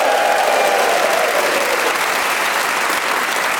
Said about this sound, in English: Now time to introduce you to the four marvellous and talented folk who will be playing along this week. They are Giles Brandreth, Lucy Porter, Rhys James and Ria Lena. Please whoop and cheer and go crackers for the lot of them.